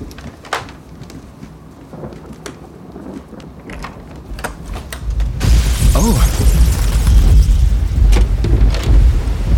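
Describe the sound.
Steady rain patters throughout at night, then a deep, loud roll of thunder swells in about halfway and rumbles on to the end; a voice briefly exclaims in surprise.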